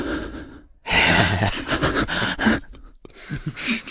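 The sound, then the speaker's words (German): A voice imitates loud, heavy breathing: several forceful, noisy breaths in quick succession, rasping and breathy with short pauses between them. “Leute, die laut atmen, habe ich auch eh nicht verstanden.”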